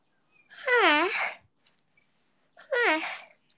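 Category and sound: human body sound, yawn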